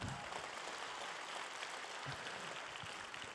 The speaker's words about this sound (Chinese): 弟兄们，哎，不错，给他们一个掌声哈。